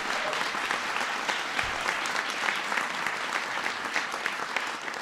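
A large audience gives a big round of applause for an oil refinery worker from Pennsylvania, clapping steadily throughout, a dense, continuous wash of applause at full strength from start to finish.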